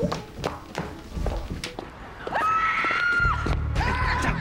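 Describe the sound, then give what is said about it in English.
Footsteps patter along at night, then a woman lets out a long, high-pitched scream, followed by a second shrill cry, both loud and sustained against a low background rumble. “Two men walking at night run towards the sound of a scream.”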